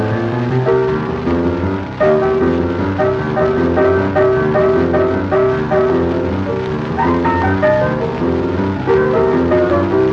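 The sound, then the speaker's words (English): A voice imitates a train whistle with loud, sustained, chord-like wailing tones that shift pitch in steady repeated pulses for about ten seconds, with no talking. “She'd blow that whistle something like this.”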